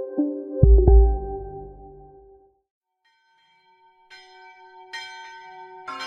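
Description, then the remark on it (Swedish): A large bell strikes twice in quick succession, its deep tone ringing out and fading, followed by lighter, higher bells chiming a few times after a brief pause. “Ring, klocka, ring i bistra revacholnatten.”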